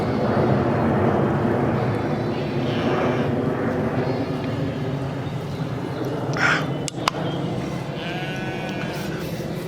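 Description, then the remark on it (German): A loud airplane drones overhead, a steady, rumbling engine roar that fills the whole stretch without fading, with a few brief higher-pitched calls briefly rising over it. “Mann, ist er schon wieder laut über mir. Flugzeug”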